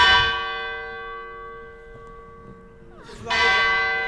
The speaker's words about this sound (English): There'd be like sort of four sort of like bells going down on the rope.